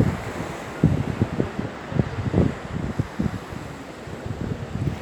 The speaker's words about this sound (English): And as you look out in front of you, there is this clear, crystal blue sea with gentle waves moving through it.